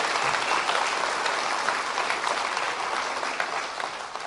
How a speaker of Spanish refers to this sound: A los demás les damos un aplauso, a los que vienen hoy, a los que hoy se unen al retiro.